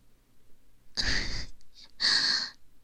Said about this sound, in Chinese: 都已经开始打呼噜了呢。 看样子是的呢，真的跟猪一样的。